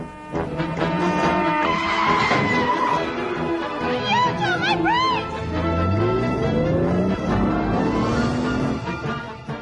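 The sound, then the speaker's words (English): A BMW car engine revs up and tires squeal in short wavering bursts in a car commercial, all loud within a dense, busy mix that runs continuously throughout. “A BMW car commercial.”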